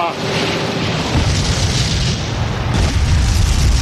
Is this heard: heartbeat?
no